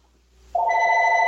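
telephone ringing

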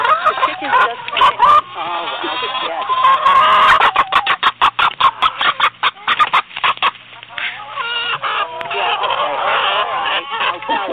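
chickens clucking

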